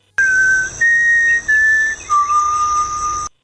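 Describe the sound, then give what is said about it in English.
A person whistles the four-note Hunger Games whistle clearly, with a low first note, two higher notes, and a long final note that drops lower. No one speaks. “and we lose each other, one of us will do the Hunger Games whistle and the other one will respond and we just keep it going until we find each other again.”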